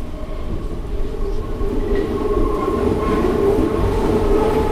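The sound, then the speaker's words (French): An elevated Paris Métro line 6 train, with a view of the Eiffel Tower, rolls steadily along its rails, a continuous loud rumble with a low droning hum and faint metallic whines, heard from inside the car with no voices. “Vue sur la tour Eiffel depuis le métro aérien de la ligne 6 que nous avions emprunté pour nous rendre au musée”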